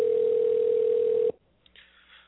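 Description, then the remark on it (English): An outgoing call's ringing tone: a single steady, telephone-filtered hum lasting just over a second, cutting off abruptly into near silence with faint background noise. “No, I find listening to the ringing kind of soothing.”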